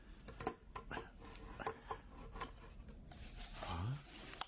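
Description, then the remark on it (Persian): Handling noises as the lid of a small box is worked open: a series of soft scrapes, rubs and light knocks, ending with a brief rising creak. “حال میتوانی در جعبه را بکشایی؟”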